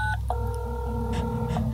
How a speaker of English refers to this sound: Okay, so nobody actually answers. That's what sound my little daughter's cell phone makes.